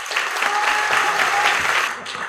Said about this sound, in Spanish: Les pedimos pasen al frente y pedimos un fuerte aplauso.